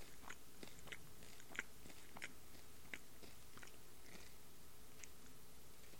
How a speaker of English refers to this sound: You think you could, does it count if you chew it and then baby bird it into my mouth? Does that count as eating?